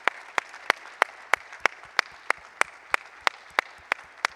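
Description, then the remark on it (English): A church audience applauds during a service to welcome a new member joining the church, a steady wash of clapping, with one set of sharp, evenly spaced claps standing out, about three per second throughout. “is joining today at this service, only one person, so she needs a really good round of applause to welcome her to the platform.”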